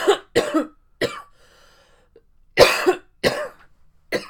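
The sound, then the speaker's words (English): A series of harsh coughs comes in clusters of short bursts, with a quiet pause in the middle before several more loud coughs follow. “It's the coughing that really... That really gets it going.”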